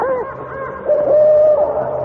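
An owl hoots: a couple of short, wavering calls give way to a longer, steady hoot that holds for about a second, clear against a quiet background with no one talking.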